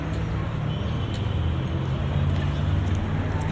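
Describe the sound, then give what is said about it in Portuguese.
A car's engine rumbles at a steady low drone on a street at the Bab al-Nasr gate (Gate of Victory) shared by pedestrians, cars and motorbikes, with faint street bustle and voices around it, the level holding even throughout. “Não é só pedonal, carros e motos também podem passar aqui.”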